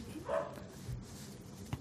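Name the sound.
dog barking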